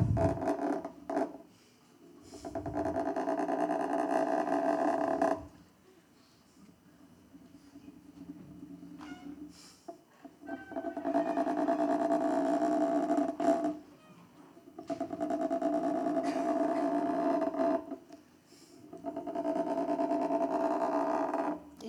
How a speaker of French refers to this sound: Là arrive comme amplifier le son du vibro. Je me mets à entendre le son du moteur dont jusqu'ici j'avais fait abstraction. Un son qui m'évoque celui d'un épilateur, d'une brosse à dents électrique ou d'une de ces petites tondeuses